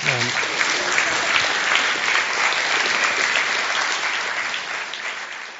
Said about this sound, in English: I think we definitely need to give Steve a round of applause.